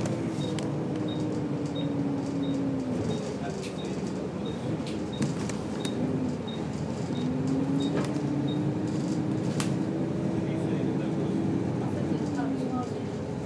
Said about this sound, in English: And here we have some normal sounding bus noises. Leave it on for a few more seconds to prove it.